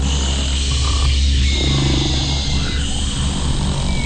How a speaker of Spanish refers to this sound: und legten sich hin und haben zu laufen aufgehört und machten in dem Spinnennetz ein Elefantenschnarchkonzert.